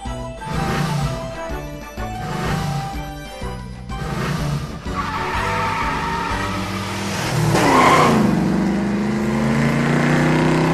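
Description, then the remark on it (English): A car engine revs and whines upward in pitch, tires screeching as it accelerates hard and speeds off, loud, after a few rhythmic sputtering bursts at the start. “Wait, car! I didn't mean you go!”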